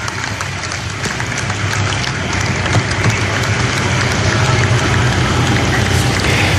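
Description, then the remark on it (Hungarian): A large crowd in Rome applauds steadily as its people bid farewell to their bishop, a dense wash of clapping, shouting and chanting of his name that stays loud and unbroken from start to finish. “A taps, a kiabálás, akár a skandálás, az ő nevének skandálása”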